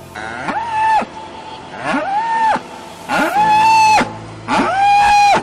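A mother cow on a dairy farm bellows loudly four times in a row, each call a long, strained, harmonic moo rising and holding before cutting off, with short pauses between and faint background hum.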